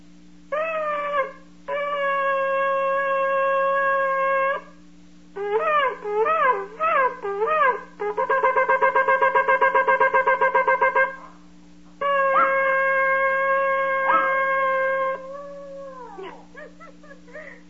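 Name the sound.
dog howling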